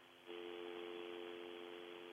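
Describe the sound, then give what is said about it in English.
A steady telephone dial tone hums over a narrow, phone-quality line, starting abruptly after a brief pause and holding unchanged at a fairly loud level, with no voices. “I got a little dial tone.”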